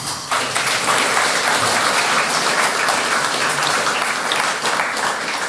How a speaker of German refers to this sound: Dann Applaus.